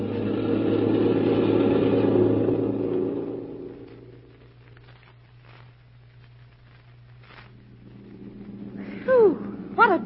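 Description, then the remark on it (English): A car engine roars loudly as the driver speeds up, then drops away to a low, steady rumble with faint clicks, before a couple of brief high squeals near the end. “How about driving a little faster?”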